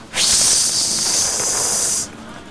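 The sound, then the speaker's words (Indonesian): A person blows a steady, forceful hiss of breath for about two seconds, imitating a strong gust of wind blowing a ship. The airy whoosh is loud and even, with no talking. “Angin kenceng. Angin kenceng. Niup apa anginnya?”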